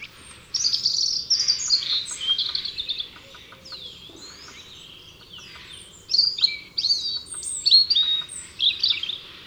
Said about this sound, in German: Ein Rotkehlchen trillert ruhig, aber unermüdlich seine melancholische Melodie.